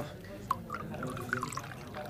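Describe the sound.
Water being poured into a glass at a restaurant table, with a few bright gurgling plinks over about two seconds, set against a low murmur of background voices in a busy restaurant.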